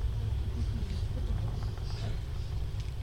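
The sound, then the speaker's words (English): A steady, deep rumble of motorcycle engines idling or rolling past, filling the low end continuously for a few seconds, with faint indistinct voices mixed into the background. “Look at the bikes, girl.”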